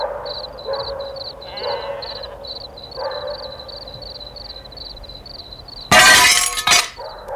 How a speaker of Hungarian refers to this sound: Engedd be ezt a lányt a házba, ha nem akarod, hogy betörjem a másik ablakodat is!